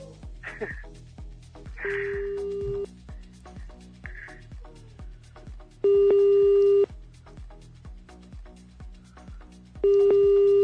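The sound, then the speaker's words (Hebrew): Steady telephone tones of an outgoing call placed live on air by Radio Kol Chai, over a repeating rhythmic pulse: a short tone near two seconds, then two long, loud ringback-style tones around six and ten seconds, with faint chirpy blips between. “זה חוסר אחריות מוחלט, בואי נתקשר אליה, כן.”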